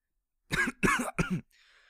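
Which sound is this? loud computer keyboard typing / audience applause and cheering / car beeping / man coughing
man coughing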